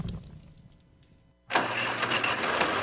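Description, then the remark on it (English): A diesel truck engine cranks over a low rumble, then bursts to life about halfway through with a loud, sustained roaring rev, in an advertisement for the Casanova Area Tractor Pull at Casanova Memorial Park. No one speaks. “Experience the heart-pounding action of diesel trucks, semis, outlaw, pro street, farm, and too hot to farm classes.”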